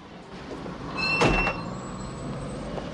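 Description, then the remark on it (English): A single car door opens and shuts with a solid thunk as people get out of a car parked outside a large, dilapidated building on a wide, quiet street, against steady low outdoor background noise; no one speaks. “They get out of the car.”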